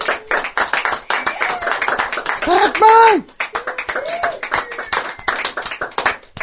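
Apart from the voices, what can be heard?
audience clapping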